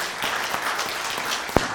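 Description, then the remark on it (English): A crowd applauding steadily, a dense wash of many hands clapping at once with a few sharper claps standing out, heard alone without talking. “Let's give them a hand of applause.”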